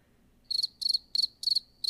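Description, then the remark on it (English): Crickets chirp in a steady rhythm, five bright, high trilling bursts in two seconds, each a quick pulsing chirp separated by short gaps, clear with no voices. “Due to cricket noise, and let's move on.”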